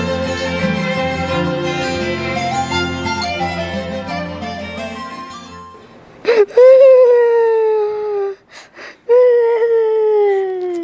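A child wails and sobs in long, loud, drawn-out cries, broken by short gasping breaths, following a stretch of music at the start.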